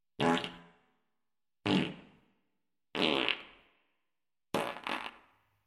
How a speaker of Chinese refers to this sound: 玉面狐狸也不肯轻易饶人，扒开自己的屁股，整个人骑坐在铁扇公主脸上，屁眼伸缩之间又有连环臭屁涌出。